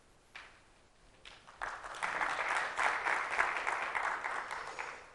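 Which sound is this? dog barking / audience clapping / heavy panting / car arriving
audience clapping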